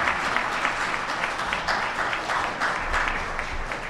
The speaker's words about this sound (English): Let's give a round of applause for an excellent program.